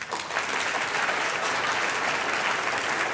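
An audience at the Ig Nobel ceremony claps to vote for 'slow' as the winner of a slow versus no debate, a dense wash of many hands that stays loud and even from start to finish, with no voices rising above it.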